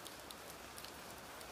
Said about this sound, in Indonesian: Kali ini akan ada gerimis di telingamu. Dan lewat rintik-rintiknya,